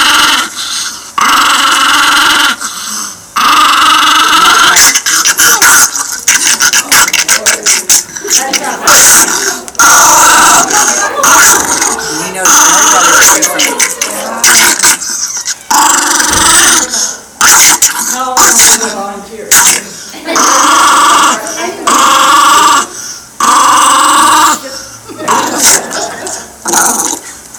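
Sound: dog growling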